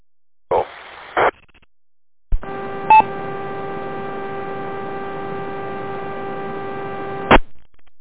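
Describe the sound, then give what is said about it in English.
Two short bursts of crackling ham radio static during a band opening, then a steady, buzzing electrical hum with a brief beep partway through, ending in an abrupt cutoff. No one speaks. “I'm assuming we're having another band opening tonight because I'm hearing similar static crashy things.”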